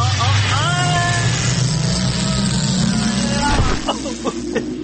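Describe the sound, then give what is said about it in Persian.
A time machine travel sound effect: a loud, steady mechanical rumble and whoosh, with warbling tones sweeping up and down over it, builds for a few seconds and then cuts off abruptly, leaving a few short clicks and chirps. “خب بریم ببینم امروز این ماشین زمان چه بلایی میخواد سر ما در بیاره.”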